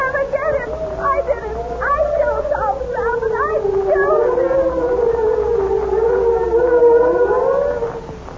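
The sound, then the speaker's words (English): A police siren from officers on their way to make an arrest wails steadily, its pitch sliding up and down in long sweeps and holding fairly loud throughout, with faint voices briefly audible underneath early on. “You hear that siren”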